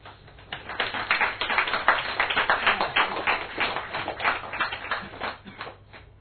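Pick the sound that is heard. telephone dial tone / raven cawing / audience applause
audience applause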